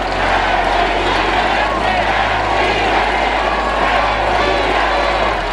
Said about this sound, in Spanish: De pronto, otra oleada de gritos se escuchó. Los 130 mil asistentes coreaban: ¡Presidente! ¡Presidente!